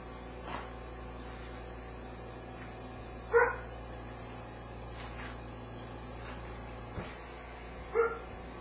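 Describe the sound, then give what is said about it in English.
A dog gives two short, separate barks a few seconds apart over a steady background of insect chirring and low hum. No one speaks. “I'm coming right now, doggy.”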